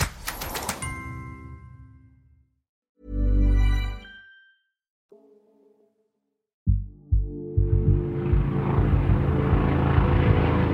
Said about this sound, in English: At dawn on May 6th, residents of Jacarezinho, a favela in Rio de Janeiro, awoke to the sound of helicopters and gunfire.